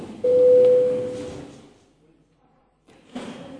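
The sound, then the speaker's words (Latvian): A parliament chamber bell, rung before a vote on a committee's proposal, rings with a steady, sustained mid-pitched tone for about a second before fading out, followed by a short quiet pause and then rustling noise. “Lūdzu zvanu.”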